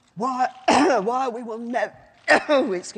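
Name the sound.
woman coughing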